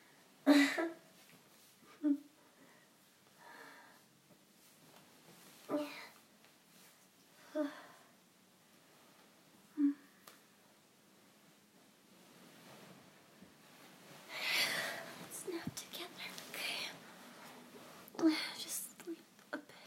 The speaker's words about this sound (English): I'm sorry for breathing so heavily. Because my nose is blocked and my throat is a little blocked too.